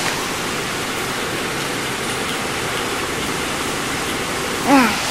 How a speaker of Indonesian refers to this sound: Oh, kayak sekarang ya? Lagi hujan ya?